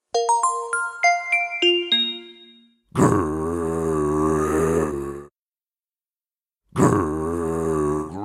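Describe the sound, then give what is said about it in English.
A quick descending run of chime notes gives way to a loud, low, rumbling hungry growl from Jay, who is having a snack attack, lasting about two seconds, then after a pause a second growl starts up. “Growl. Jay's having a snack attack.”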